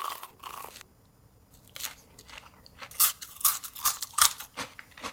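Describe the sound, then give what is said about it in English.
Loud, crackly crunches as someone bites and chews a crispy Korean corn dog, a string of sharp bursts that grow stronger toward the end, with no talking. “Korean corn dog.”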